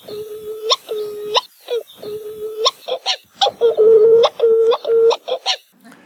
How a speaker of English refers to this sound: So like the verse for the Hawaiian petrel or the uwa'u, basically, you know, uwa'u, many Hawaiian birds are named after what they sound like. So the uwa'u or the Hawaiian petrel, it goes wa wa wa.